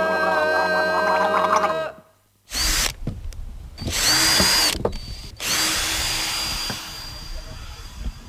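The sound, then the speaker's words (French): A power drill whirs loudly in several bursts at a DIY workshop where a sign is being made, spinning up with a high whine, cutting out briefly, then running again, after an opening steady droning tone. “Atelier bricolage, perceuse, pancarte.”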